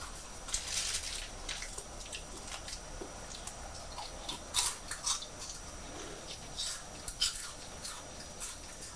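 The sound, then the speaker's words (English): Someone crunches on Quavers crisps, with irregular bursts of crisp, crackly bites and chewing spread over several seconds and no talking. “Those quavers are making a nice crunchy sound, aren't they? Crunch, crunch.”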